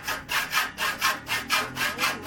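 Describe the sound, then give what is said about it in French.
A saw cuts with steady back-and-forth strokes in a welding workshop in central Bamako, Mali: about six rasping pulls in a quick, even rhythm, fairly loud, with no voices. “De 8h à 18h, on peut attendre des bruits de scie à l'atelier de soudure de Madou Traoré.”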